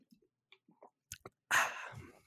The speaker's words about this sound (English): And let me just take a quick drink of water.